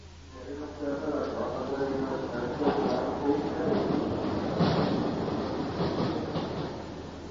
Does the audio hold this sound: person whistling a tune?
no